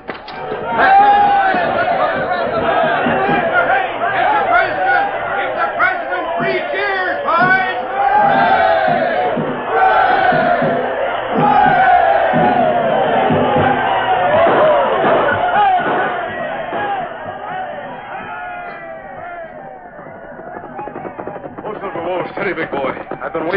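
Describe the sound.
A large crowd in Dodge City cheers and shouts at night, many overlapping voices whooping and hollering in a steady, loud roar that carries on for the whole stretch, easing slightly near the end.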